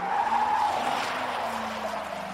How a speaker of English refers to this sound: And the people in the crowd and on the field always remember the screech that they heard outside. And it was a car.